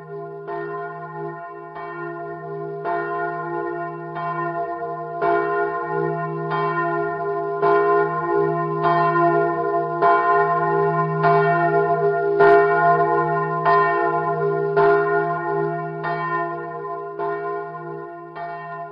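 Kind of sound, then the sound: signal or alarm, church bell ringing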